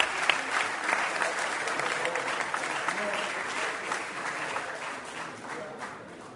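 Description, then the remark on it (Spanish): A crowd claps steadily for the department of Salto and its representatives, a dense, bright wash of many hands with no pauses, gradually easing a little in loudness toward the end. “Un aplauso para Salto y sus representantes.”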